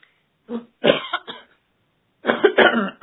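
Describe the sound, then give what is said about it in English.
A person recovering from a cough coughs in two bouts: a quick cluster of three or four dry coughs, a short pause, then a longer, harsher fit that runs to the end. No talking. “I'm recovering from some kind of my cough will appear from time to time.”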